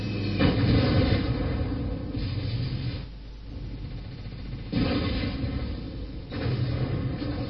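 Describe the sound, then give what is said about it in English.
Heavy tank cannon blasts from a video game, fired by a Tiger heavy tank: three loud booming shots spaced a second or more apart, each followed by a long, dense low rumble that fills the gaps. No one speaks. “NBTNT is attacking again with a light tank, and the tank was blown by a heavy tank, a Tiger.”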